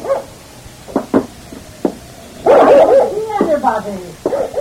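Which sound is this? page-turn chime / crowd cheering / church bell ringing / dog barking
dog barking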